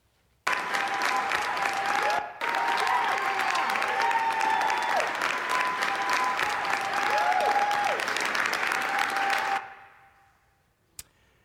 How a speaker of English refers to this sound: Now, I wish I could tell you that was Congress applauding for passing legislation on border security or reforming health care or good news like that. But unfortunately, that was the State House in Albany, New York, cheering and applauding